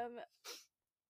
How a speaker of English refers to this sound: I just did a really aggressive sniffle, and I'm so sorry.